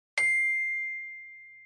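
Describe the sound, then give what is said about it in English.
A single bell rings once with a sharp metallic strike, then a clear sustained tone slowly fades away. No voices accompany it. “Listen again to the listening and repeat the words when you hear the bell ring.”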